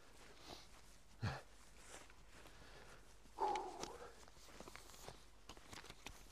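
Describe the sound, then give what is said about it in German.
Quiet, steady footsteps of a person walking outdoors as part of a workout, soft regular thuds continuing throughout, with a brief louder snuffling or scraping sound partway through and faint background noise. “Ich sammle heute Schritte, sonst wird die Aufnahme zu wackelig und du hörst mich schnaufen.”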